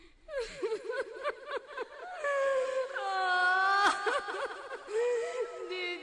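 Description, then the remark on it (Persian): A woman wails and laments in a loud voice among children at the Jannat Abad cemetery, throwing dirt on her head, her sobbing cries rising and falling in long, quavering, drawn-out moans with short breaks between them. “چند نفر توی غسالخونه ایستاده بودن و زنی که بین بچه ها شیون می کرد و خاک به سرش می پاشید.”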